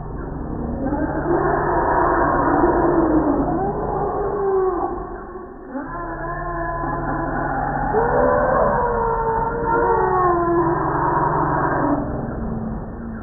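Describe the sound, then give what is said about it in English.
A loud, continuous chorus of overlapping elephant calls during mating: deep rumbles and roars layered with wavering, horn-like trumpeting, briefly dipping near the middle before swelling again. “Let me play a clip of the sound of the elephant mating pandemonium.”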